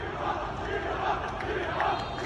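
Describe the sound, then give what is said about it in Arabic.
A protest crowd in Beirut, Lebanon, demanding the removal of judicial investigator Tarek Bitar from the Beirut port case, chants together, voices rising in steady rhythmic swells over a dense, continuous roar of many people shouting. “بداية القصة دعوات للتظاهر لكف يد قاضي التحقيق العدلي طارق بيطار عن ملف مرفأ بيروت.”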